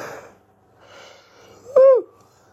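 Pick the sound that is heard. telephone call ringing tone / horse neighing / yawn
yawn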